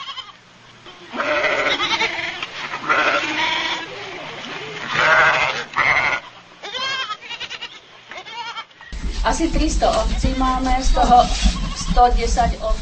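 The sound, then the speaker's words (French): A flock of about 300 Romanov sheep, a breed originating in Russia, bleat loudly on a farm in the Czech Republic, many overlapping wavering cries in quick succession, with a low rumbling background joining the dense chorus toward the end. “La ferme de Dagmar Havlova est la seule en République tchèque à élever les brebis de race Romanov, originaire de Russie.”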